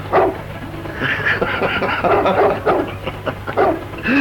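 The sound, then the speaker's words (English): A dog barks and yips in quick, agitated bursts outside, attacking a man with a bike and snapping at his legs, loud, with snarling and snapping sounds mixed in over a constant low hum. “It looks like he's being attacked by a dog by the sound of it.”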